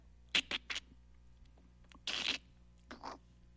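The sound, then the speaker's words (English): An egg cracking inside a snake's body as the snake bends its body at a right angle: three quick, sharp cracks, then a longer crunching crackle and one last brittle snap, fairly quiet, with no one speaking. “The snake had a place where it could break the egg right in its body.”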